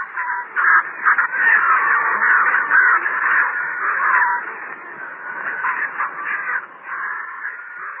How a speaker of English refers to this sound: It was an elephant. The birds were preparing to kill, preparing to begin their foul meal.